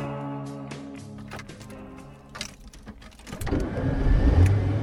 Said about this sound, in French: Alors aujourd'hui, je vous emmène avec moi sur le Causs. On part en voiture là chez Richard.